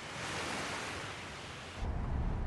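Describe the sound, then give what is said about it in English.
Ocean waves wash onto a sunny beach in a steady, hissing surge that gives way to a deeper, louder rumble as another wave breaks. No one speaks. “The sun reflects on the waves as she lies in her rust-brown two-piece swimsuit.”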